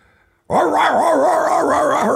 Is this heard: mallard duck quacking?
no